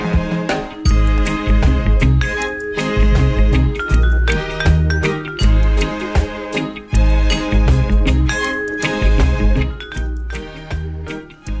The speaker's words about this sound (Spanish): Qué campanilla.